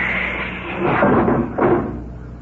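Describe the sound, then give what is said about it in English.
A spaceship airlock's outer door slides open as helmeted crew bump out the lock: a steady, airy rumble swells into two hissing, grinding surges, one after the other, then settles back to a low hum. No voices. “Open the outer door”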